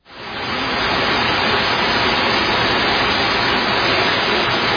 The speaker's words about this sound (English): And it would rain like that for several hours. Well, the rain would come and go.